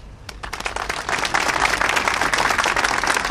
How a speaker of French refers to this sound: Thierry a mené un combat et en son honneur, je voudrais que nous faisions une minute d'applaudissement parce qu'on peut vraiment parler de combat lors d'une expropriation.